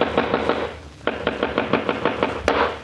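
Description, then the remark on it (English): Rapid hammer blows pound nails into window moldings as they are fixed, in quick, steady bursts, a short run of strikes, a brief pause, then a longer string of sharp, evenly spaced knocks ending on one harder hit. “How long do you expect me to sit in this room listening to people pounding nails?”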